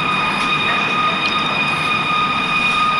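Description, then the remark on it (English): A loud, continuous high-pitched metallic grating that seems to come from the sky, steady ringing tones layered over a rough, noisy rumble, holding without a break for the full few seconds with no voices. “Well, this one's more of that metallic grating sound people describe, more high-pitched.”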